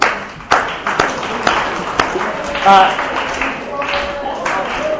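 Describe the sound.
A brief, scattered round of applause: a handful of sharp claps spaced about half a second apart over a busy bed of voices and chatter.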